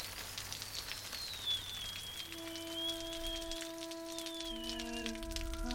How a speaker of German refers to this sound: In der Morgendämmerung regnet es heftig. Aber gegen 6 Uhr hört der Regen auf.